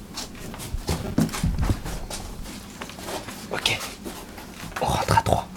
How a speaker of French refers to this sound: Les chiens, silence.